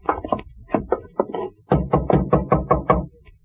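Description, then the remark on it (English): Knuckles rap on a door in two bursts: a brisk, uneven set of knocks, a short pause, then a louder, steadier run of about seven firm knocks. “Knock again.”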